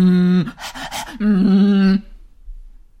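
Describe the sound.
A voice imitates panting: a sustained voiced note, then a quick run of three or four breathy, huffing puffs, then another held voiced tone before quiet.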